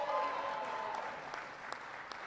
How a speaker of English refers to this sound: First of all, Commerce Secretary Penny Pritzker is here. Give Penny a big round of applause.